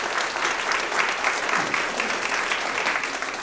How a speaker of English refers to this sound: If you want to welcome her, give her a round of applause.